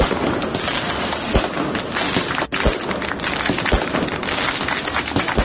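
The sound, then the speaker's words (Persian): A dense, continuous crackle of firecrackers going off outdoors, set off by supporters at the 64th birthday celebration of former Iranian president Mahmoud Ahmadinejad in Meydan 72, Narmak, Tehran, with several sharper, louder bangs standing out at irregular moments over the steady popping. “این مراسم تا جایی پیش رفت که طرفداران احمدی نژاد برای وی توپ و ترقه هم درک کردند”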